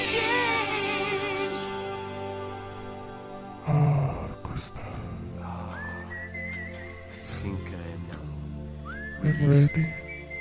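A melodic whistled tune plays over a steady sustained background, with rising whistled notes and brief breathy gaps between phrases, moderately loud.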